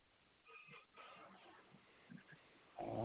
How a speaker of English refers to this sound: Did you hear the kitty co-host? Ah, that must be Queen Victoria. My cat. She's around.